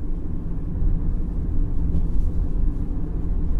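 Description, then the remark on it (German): A car rolls over a bumpy path through a small, dense pine wood, taking the last bend before the trees open into a clearing, a steady low rumble with uneven jolts and rattles running throughout, no voices. “Ich lenkte unseren Wagen auf dem holprigen Weg in die letzte Kurve, kurz bevor der Wald sich lichtete.”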